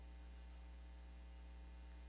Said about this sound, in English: I can't hear you over the fans. You're going to have to shout it loud.